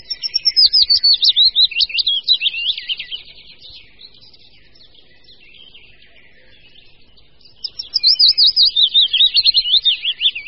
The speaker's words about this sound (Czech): A nyní zpívá nejbližší příbuzný druh, stejně početný budníček větší.